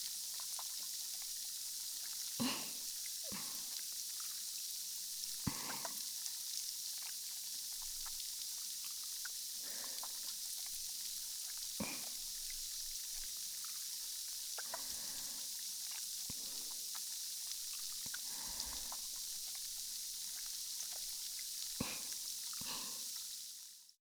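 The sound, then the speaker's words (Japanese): Carbonated foam fizzes steadily, a soft constant hiss broken by irregular wet squishes and little pops as hands knead it. No one speaks. “じゃあまた炭酸の泡用意するから待ってね。”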